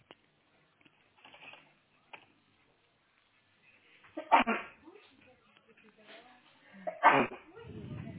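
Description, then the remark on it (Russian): Two sharp, explosive sneezes burst out a few seconds apart, loud, after a stretch of quiet faint clicks and low murmuring. “Будьте здоровы все.”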